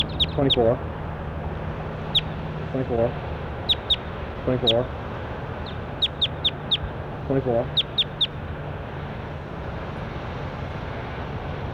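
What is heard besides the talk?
bird calls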